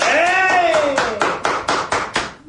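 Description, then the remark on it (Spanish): Steady, rhythmic clapping of about ten claps at a brisk even pace, fairly loud, with a drawn-out vocal cheer gliding downward over the first second before the claps continue alone and fade. “Eso, aplauso.”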